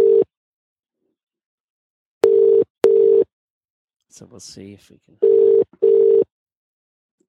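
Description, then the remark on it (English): A steady electronic Skype outgoing-call ringback tone, calling someone in England, sounds in pairs of short bursts, with a man briefly speaking in the gap between pairs; the tone is clear and fairly loud. “Well, it's ringing anyway, so that's good. Skype rings over there.”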